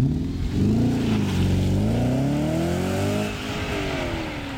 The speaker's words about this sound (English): So I've got a little test for you. Okay. This is the Nokia Arte starting up. Very nice. And this is the Audi R8 starting up.